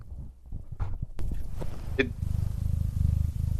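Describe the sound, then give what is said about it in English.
A cat named Potato purrs loudly with the microphone placed directly on it, in a deep, steady rumble of rapid low pulses, with brief rustling and handling noise in the first couple of seconds. “Yeah, that's a loud-ass purr.”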